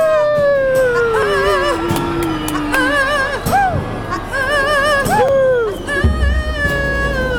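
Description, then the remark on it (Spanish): Several people imitate a wolf howl as part of a children's dance routine, with long overlapping wails that rise and fall in pitch, loud, carrying on continuously for several seconds. “Twist con garrita, trompa niño lobo, arriba, abajo, arriba, abajo, aullido todo el mundo.”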